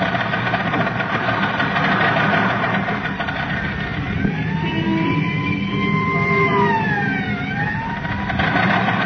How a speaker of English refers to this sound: Yes. This is the Mount George Road. And look, Robin. There goes the ambulance up the mountain.